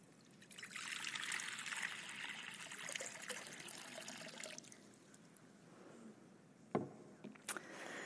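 Water is poured in a baptismal font during the baptism of children, making a soft, steady splashing wash for several seconds before thinning to a quieter trickle. A couple of sharp knocks sound near the end. No one speaks.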